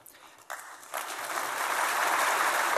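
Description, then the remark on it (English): A group of German business people in Berlin applauds Greek Prime Minister George Papandreou after his address, the clapping starting scattered and quickly swelling into a dense, steady wash of many hands that holds at full strength to the end. “If George Papandreou's audience had been made up of the German public, it might not have applauded.”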